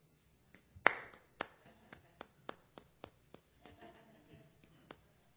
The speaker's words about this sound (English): And it's called the dreaded sympathy clap. The dreaded sympathy clap. And it looks like this. It looks like this.